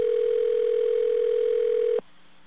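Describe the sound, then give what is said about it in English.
A steady, unbroken telephone dial tone hums at a constant pitch for about two seconds as a late call is placed to the 9X service line, then cuts off abruptly, leaving faint line hiss. “Well, if you call really late, all right, like we're going to call now, you waste a lot of time to find out they're closed.”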